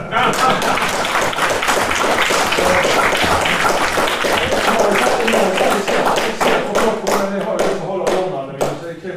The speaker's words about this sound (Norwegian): Applaus.